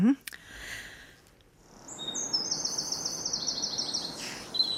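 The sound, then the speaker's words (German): Birds sing their spring courtship songs at dawn: a high, rapid trilling phrase repeats over a soft outdoor background, with a brief chirp near the start and another call at the end. “So hört sich zurzeit frühmorgens an, die Balzgesänge der Vögel im Frühling.”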